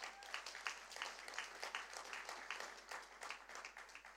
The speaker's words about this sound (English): Let's give Father a round of applause.